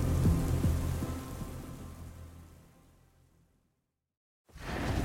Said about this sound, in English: The sky barked above, but Wesley barely noticed the thunder anymore. It had become background noise, like the din of bugs or the chirp of morning birds.